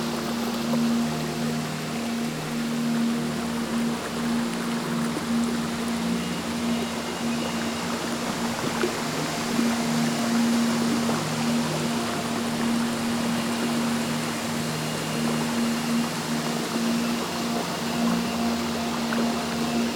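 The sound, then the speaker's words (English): A recorded river water ambience track plays: a continuous steady rushing wash that holds at an even level throughout, with a constant low humming drone underneath and no voices. “River Wine Dreaming play.”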